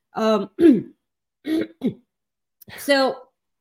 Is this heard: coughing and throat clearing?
yes